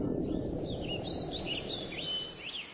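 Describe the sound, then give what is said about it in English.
A small bright scarlet bird, a hummer, perched on a 4-meter-high perimeter fence around Arcanian Microtechnologies Headquarters, Volhai, chirps repeatedly in quick, high-pitched bursts over a steady, noisy outdoor rumble, with no voices present. “He watched a small bird, a hummer, bright scarlet, perch on top of the 4-meter-high perimeter fence that ran for 6 kilometers around Arcanian Micro's headquarters,”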